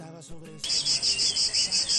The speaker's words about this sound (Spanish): ¿Es de las cigarras, …? Sí, un insecto